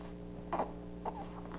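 Two brief, soft infant vocal noises, a scratchy throaty sound followed half a second later by a smaller one, heard faintly over a steady low background hum.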